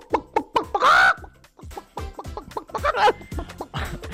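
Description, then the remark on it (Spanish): A listener imitates a hen with a run of quick, choppy clucks and a brief louder squawk, fairly loud, the bursts coming in an uneven rhythm. “Pues empezaron a mandarnos sonidos de animales hechos por oyentes.”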